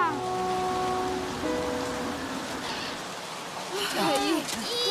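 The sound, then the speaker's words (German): Steady rain patters down in a continuous hiss in the mountains, with voices calling out over it at the start and again near the end. “Aber es regnet immer noch.”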